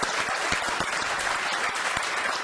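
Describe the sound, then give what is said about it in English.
A crowd claps steadily, many hands producing dense, continuous applause with no voices standing out, fairly loud throughout. “So I appreciate the applause, but I hope you'll continue it in the near future.”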